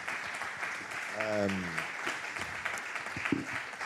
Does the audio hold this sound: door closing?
no